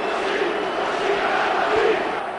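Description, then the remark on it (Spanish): A huge crowd of Real Madrid fans at the Santiago Bernabéu stadium chants "así, así gana el Madrid" in unison, a dense, steady roar of many voices with a rhythmic, sung quality that holds at an even loudness throughout. “Gritos de así, así gana el Madrid, es lo que se escucha aquí en el Bernabéu.”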